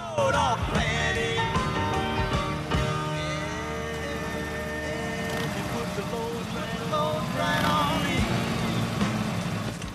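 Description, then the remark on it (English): Loud motorbike engines rumble and rev, their pitch rising and falling as the bikes ride up to a bar in the hills and slow to a stop in its dusty car park, with a steady low throb running underneath. “They ride up to Big Earl's in the middle of the hills and pull into the dusty car park.”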